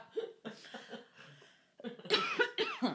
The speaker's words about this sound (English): Yeah, and we're also coughing on this episode. Yes. And we're coughing on the episode and on the microphone. And on each other. Yeah. In each other. We are coughing directly into each other's mouths.